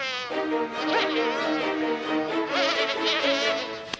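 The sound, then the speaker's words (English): A mosquito's thin, high-pitched whine drones steadily, its pitch wavering slightly as it hovers, with no voices present. “Oh, mosquitoes.”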